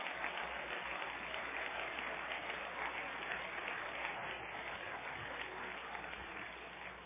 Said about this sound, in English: Clap your hands to the Lord if you will.